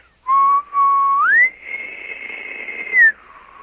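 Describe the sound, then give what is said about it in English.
A person whistles in imitation of an elk bugle: a clear tone starts low, glides sharply upward and holds a high pitch, then drops back down, loud with no talking. “So it's a whistle that has a crescendo and then comes back down.”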